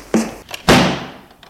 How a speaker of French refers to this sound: Il continue à descendre. Il entend la porte qui claque.